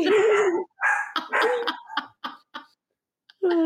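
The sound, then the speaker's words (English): Dogs bark loudly in a quick, uneven string of about eight sharp barks and yips, with one brief pause before a final bark. “Dogs say goodbye.”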